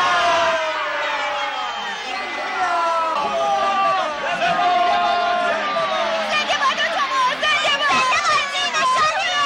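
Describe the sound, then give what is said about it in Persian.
A large crowd roars and cheers continuously for the Shaheen team entering the field, many voices shouting and overlapping into a dense, loud wall of sound that swells slightly toward the end. “و این تشویق به خاطر ورود تیم شاهین به زمینه.”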